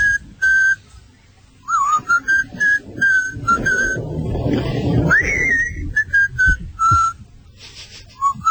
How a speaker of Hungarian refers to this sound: A magányos ember fütyül.